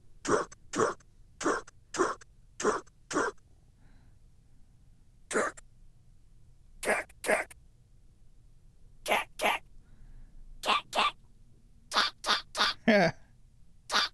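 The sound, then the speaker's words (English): Short, sharp bursts from a pocket operator synthesizer that sound like a dog barking, repeating in pairs and quick clusters with brief gaps, fairly loud, with no talking. “Now it just sounds like a dog barking.”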